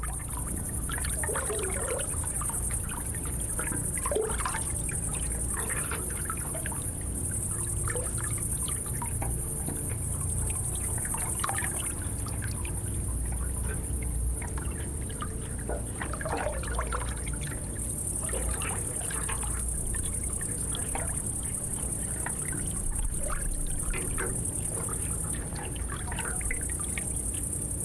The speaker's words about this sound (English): The pipes were 6 meters long. The listener was not able to see anything of the flowing water because the canal was at a quite lower level than the sitting place.